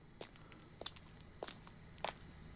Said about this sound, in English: Footsteps running into the track.